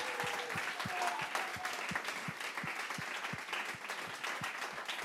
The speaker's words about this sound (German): Gebt ihm nochmal einen herzlichen Applaus. Danke vielmals.